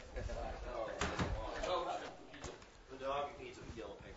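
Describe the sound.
A door is pushed shut with a sharp bang, preceded by a smaller knock of handling, while a person talks.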